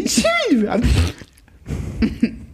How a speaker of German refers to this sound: Ja, und das, was ihr jetzt gehört habt, das muss ich hier tagtäglich, dieses wunderschöne Niesen.